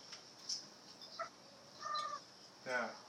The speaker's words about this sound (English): That. The bird. Yeah, that's princess. That's princess cooing.